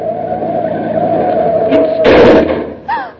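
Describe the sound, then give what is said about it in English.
A car engine drones steadily, then a sharp burst of tire noise and a jolt as the car brakes hard to a sudden stop to avoid running into a taxi cab, followed by a brief squeal. “Would you have preferred to have me run into that taxi cab or stop quickly?”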